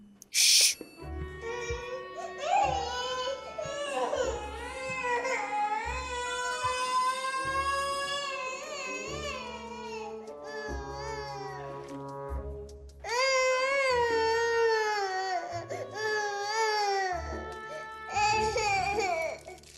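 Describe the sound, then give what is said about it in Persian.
A baby cries in long, wavering wails that rise and fall, pausing briefly partway through before starting up again, loud and close, with no speech over it. “چی شده نینی کوچولو؟”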